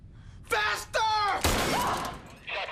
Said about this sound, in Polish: Słyszałem strzał.